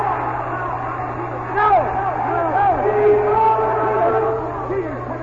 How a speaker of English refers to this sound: The timer's horn was sounding. There's a big discussion here. When the crowd gets to yelling so loud they can't hear the timer's horn for a substitution.